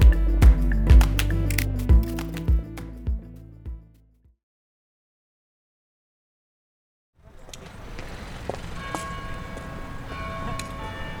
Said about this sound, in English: Just beside the Royal Courts of Justice is a church. Every hour or so, the bells ring. I don't know who decided to put the court building right next to this church, but whoever it was had a sense of drama.